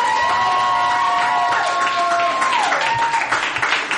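A large crowd cheers loudly and steadily, with whoops and a sustained high yell rising above the roar before sliding down, with applause mixed into the dense noise.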